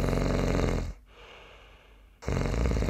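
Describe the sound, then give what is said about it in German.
A person snores loudly, with a long rasping snore, a quiet pause of about a second, then another harsh snore starting up. “Hier wird zwar ordentlich gesägt, aber singen tut diese Nervensäge wirklich nicht.”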